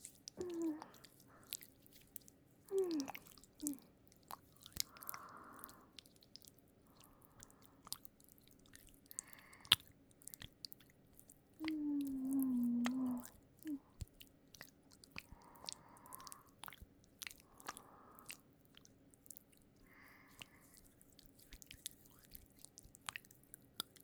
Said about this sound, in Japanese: この洗い方、いいでしょう。海の両手とマスターの両手、二人で同時に洗えちゃう。握手洗いって言うんだよ。